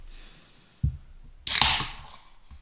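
A dull knock, then a sudden loud fizzing hiss as a stout is cracked open and poured into a glass, tapering off over about a second, followed by a faint soft thump. No one speaks.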